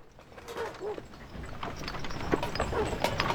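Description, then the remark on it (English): The hooves of a mule carrying panniers clip-clop in a steady, uneven rhythm over a busy outdoor background with faint voices murmuring underneath. “Can you see one of those panniers slipping on that mule there?”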